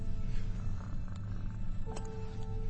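A cat, Jonesy, purrs steadily, a continuous low rumbling vibration with a brief faint tonal hum partway through, no voices.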